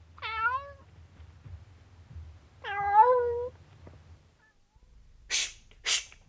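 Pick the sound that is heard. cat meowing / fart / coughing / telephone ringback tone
cat meowing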